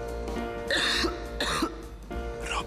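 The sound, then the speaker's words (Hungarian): Three harsh coughs in a row, fairly loud, each a short rasping burst with brief pauses between, over a low steady background hum. “A köhögés sosem jön jókor.”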